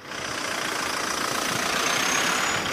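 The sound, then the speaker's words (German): A steady, droning rumble of car engines idling in stop-and-go traffic on the Oder bridge at the German-Polish border at Frankfurt, with cars coming from Poland waiting at border controls; a dense continuous hum with faint rhythmic ticking, no voices, holding level throughout. “Stop-and-Go-Verkehr auf der Oderbrücke.”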